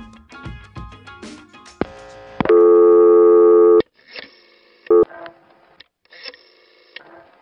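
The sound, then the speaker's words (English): Buttons on a telephone clatter and click as the number 660, a test line for repairmen, is dialed, followed by a loud, steady electronic tone lasting about a second, then a brief beep and quieter handset noises. “So, I wanted to know more about this, and I tried dialing 660 myself.”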